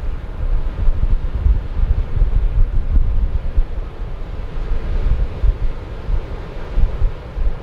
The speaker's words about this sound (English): You know, it's interesting. I don't know how much of that is wind, how much of that is ocean, but it's never ending.